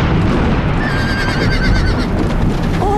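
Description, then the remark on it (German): Schneeflocke, a small piebald pony, leaps about while ridden and whinnies in a high, wavering call that rises and trembles. The call rides over a steady rumble of hoofbeats and rustling noise, with a second short squeal near the end. “Aber er nahm es dem kleinen, scheckigen Pony nicht übel, wusste er doch, wie sehr ihn die 2 Wochen im Stall gelangweilt haben mussten.”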